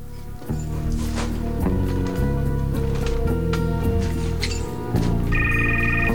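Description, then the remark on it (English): A mobile phone in a drawer of an overturned table in a ransacked warehouse starts ringing near the end, a bright electronic trill cutting through a dense, brooding musical score that fills the whole scene. “Hearing the telephone, he walks over to an overturned table and reaches into a drawer, pulling out a mobile phone.”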